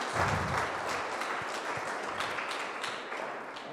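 Steady applause from a crowd, a dense wash of many hands clapping at even loudness for several seconds with no voices over it.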